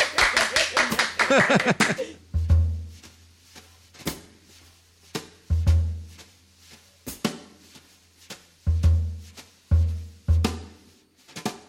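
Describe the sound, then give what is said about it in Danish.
A short burst of hands clapping, a small group's applause lasting about two seconds, followed by a few sharp isolated hits with low, booming thumps and quieter gaps between. “Skal vi klappe?”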